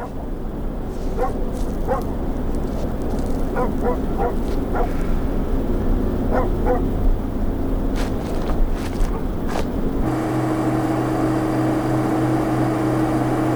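A dog barks in short clusters of sharp barks over a constant low rumble of background noise; the barking stops and only the hum remains for the last few seconds.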